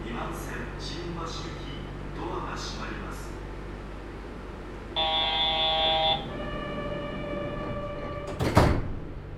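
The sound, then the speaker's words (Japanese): A voice announces Takeshiba station and that the left-side doors will open, over a steady low rumble; then a sustained electronic chime sounds, followed by a brief sharp pneumatic whoosh as the train's left sliding doors open. “竹芝です。左側のドアが開きます。ご注意ください。”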